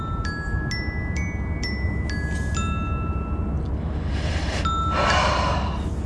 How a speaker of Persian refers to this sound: تلفن دفترشه.